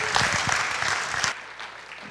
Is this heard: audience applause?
yes